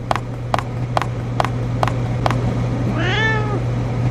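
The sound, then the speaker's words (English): A single drawn-out cat meow rises and falls near the end, preceded by six evenly spaced sharp ticks, all over a steady low electrical hum. “Now the cat has found me, and if I don't move fast enough, I'll die.”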